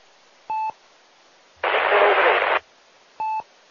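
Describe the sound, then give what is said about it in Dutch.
A burst of hissing radio static about a second long, a weak radio transmission buried deep in the noise, sits between two short electronic beeps, with no clear voice rising above the noise. “Maar verder voor de rest, dat ging echt diep in de ruis.”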